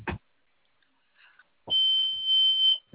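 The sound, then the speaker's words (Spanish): An alert button is pressed during a check call for a freight trip bound for the CEDIS in Monterrey: a single sustained high-pitched electronic alarm tone sounds for about a second, loud and steady, after a short faint chirp; brief clicks or noise bursts bracket it, with no talking. “¿Me podrías apretar tu botón?”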